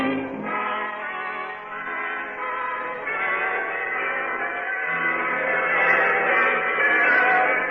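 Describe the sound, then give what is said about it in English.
Several church bells peal together in a dense, continuous wash of overlapping ringing tones, steady and fairly loud throughout, with no voices, on a muffled, narrow-sounding old recording. “The bells are ringing throughout the land this week.”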